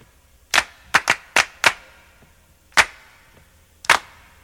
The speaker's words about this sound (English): All right, well, let me play their biggest hit then. And okay. I'd be stunned if you don't get it right away.